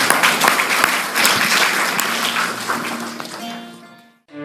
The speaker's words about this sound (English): Let's give the Lord a hand clap, because he's good all the time.